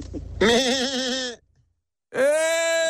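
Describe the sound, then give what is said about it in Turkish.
A person's voice does a requested imitation of a bleating lamb in two loud, sustained calls. The first is shaky and wavering, then a short silence comes before a steadier, nasal second bleat. “Ya, kuzu taklit istedik hocam bu teke yalnız.”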